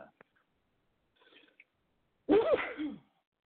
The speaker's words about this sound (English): Sorry, had a big sneeze.